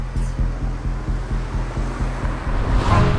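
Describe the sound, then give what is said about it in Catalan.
A steady, rumbling roar of a family car driving away from the city along a highway, with wind noise and soft rhythmic thumps from the road surface passing beneath. No voices are heard. “El cotxe familiar s'allunya de la ciutat per l'autopista.”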